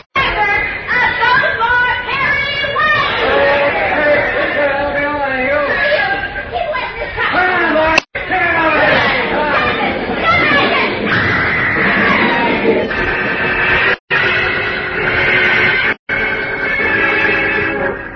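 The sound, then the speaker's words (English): A loud, unbroken din of many voices shouting, yelling and screaming over one another in a chaotic crowd uproar as some 50 men push, slug and swing blackjacks through the crowd toward a sound truck, broken by a few abrupt momentary dropouts. “At the signal, some 50 men start moving through the crowd from every direction, pushing, slugging, swinging blackjacks, moving toward the sound truck and Lois Lane.”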